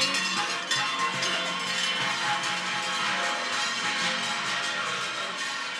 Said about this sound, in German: Die mit den großen Glocken, die laufen alle noch stramm vorweg. Ja, wir haben extra den Kühen die großen Glocken gegeben. Also die, die viel Ausdauer haben und auch stark sind.